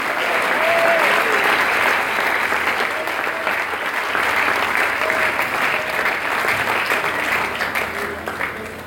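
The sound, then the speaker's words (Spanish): A crowd claps steadily and loudly for the Lord for several seconds, a dense wash of hand claps with no pauses, a few faint voices rising through the sustained applause. “Vamos con un aplauso al Señor, ahí vamos a decir la palabra de Dios.”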